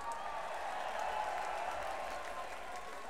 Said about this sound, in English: How about a round of applause for the pig, huh?